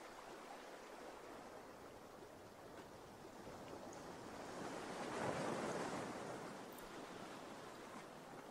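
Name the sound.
ocean waves washing ashore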